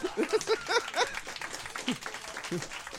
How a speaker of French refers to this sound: on l'applaudit. Let's go.